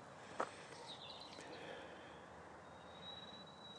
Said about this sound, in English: It's been a really beautiful, crisp day here in Derbyshire. Not a cloud in the sky. The birds are now singing.